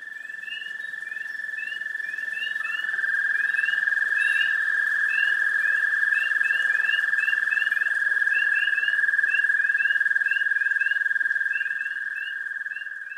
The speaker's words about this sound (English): Spring peepers and other froggy companions croon in chorus around a Carroll County pond. They're proclaiming that winter is over. You're going to have wood frogs, there's southern leopard frogs, and there's dwarf American toads.